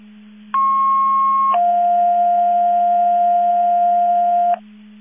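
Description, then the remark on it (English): Two loud, steady electronic alert tones play back to back over a CCOM fire and ambulance dispatch radio channel, a short higher tone followed by a longer lower one, with a constant low hum underneath. “Disregard those tones.”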